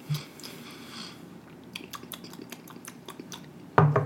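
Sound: sipping whiskey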